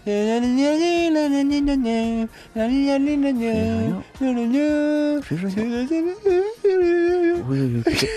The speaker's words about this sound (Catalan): Què està plorant?